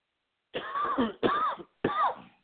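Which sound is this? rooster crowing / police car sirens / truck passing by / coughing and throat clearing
coughing and throat clearing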